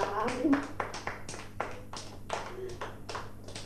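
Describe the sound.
A group breaks into applause, a dense run of sharp, overlapping hand claps that holds steady for a few seconds while voices talk underneath at the start.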